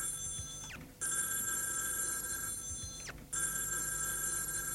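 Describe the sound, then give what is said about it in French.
A telephone bell in a hotel room rings insistently and nonstop in long bright bursts, broken by short gaps, repeating over and over with no one answering or speaking. “Le téléphone sonne sans arrêt à la chambre de son hôtel.”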